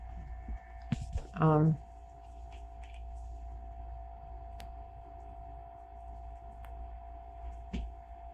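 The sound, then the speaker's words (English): A refrigerator's steady, low buzzing hum runs unbroken through the whole stretch, quiet and constant, with a brief, louder sound breaking in near the start. “There's a little buzzing. Oh, I know what that is, the refrigerator.”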